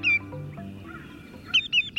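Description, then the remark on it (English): A greater yellowlegs, a shorebird with bright yellow legs and feet, calling: a loud, clear whistled note, then a quick series of three ringing, downslurred 'tew' whistles, high-pitched and piercing over a low background rumble. “True to their name, greater yellowlegs are shorebirds with bright yellow legs and feet.”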